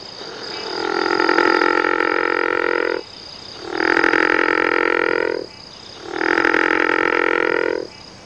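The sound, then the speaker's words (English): A single river frog gives three long, rumbling snore-like calls, each about two seconds, separated by short pauses, loud against a quiet background. “The rumbling snore can trail off in volume at the end, and generally they don't call in choruses.”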